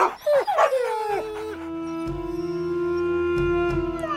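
A dog gives a quick burst of high yips and whimpering barks in the first second or so, then falls silent as a steady, humming musical drone carries on underneath.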